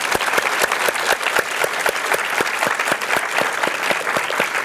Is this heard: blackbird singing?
no